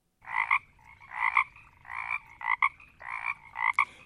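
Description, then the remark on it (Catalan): Frogs croak in a steady, rhythmic series of about six loud calls, each a raspy double pulse, over a faint low background hum as in a swamp. “avui us porto una història de dues granotes. Dues granotes que vivien en un pantà.”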